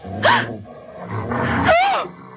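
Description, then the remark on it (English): A dog growls and snarls in a few rough bursts, the low rumble rising into a sharper, whining edge near the end. No one speaks. “Does the dog frighten you, Mrs.”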